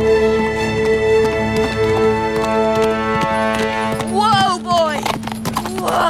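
horse hooves galloping

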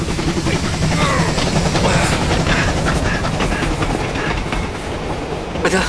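train approaching on rails

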